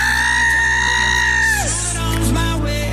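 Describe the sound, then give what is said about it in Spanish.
A loud, piercing scream holds one high pitch for over a second, then drops away into rough, noisy shouting, on a Monday morning. It fills the whole moment, with no talking. “¿Cómo no vamos a animarnos con esos griteríos que tenemos ya de buena mañana?”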